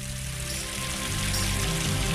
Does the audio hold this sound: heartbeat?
no